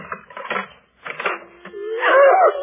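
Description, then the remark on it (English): Clattering metallic clicks and rattles of a key working the lock of a forbidden door, a brief pause, then a loud, drawn-out wavering creak as the door swings open. No voices. “I shall open the door and release them.”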